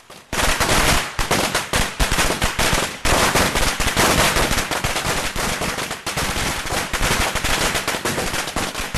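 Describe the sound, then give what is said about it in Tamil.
A long, dense string of firecrackers, hung on a building door and set off to welcome the Chinese New Year of the Dragon in Zhuzhou, Hunan, China, crackles and pops nonstop, loud, a rapid machine-gun-like rattle with no voices, briefly dipping around three seconds before resuming. “புத்தாண்டை வரவேற்க பட்டாசு வெடித்து கொண்டாடுவது சீன மக்களின் வழக்கமாகும்.”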